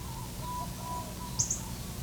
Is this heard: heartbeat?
no